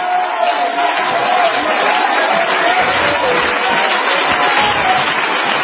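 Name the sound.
audience clapping hands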